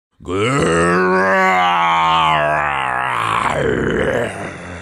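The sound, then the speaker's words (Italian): A voice lets out one long, loud, growling roar in imitation of a beast, sustained for several seconds with a rough, strained tone before trailing off into a low rumble. “Questo ruggito era così forte e terribile che Owen cacciò un urlo e si tuffò tra i cespugli cercando di scappare terrorizzato.”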